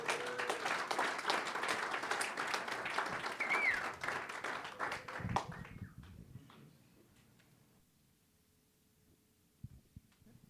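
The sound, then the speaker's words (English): An audience applauds a speaker being introduced, with dense, steady clapping for about five seconds, then the sound tapers off into near-silence, broken by a couple of faint knocks at the end. “Give him a good applause.”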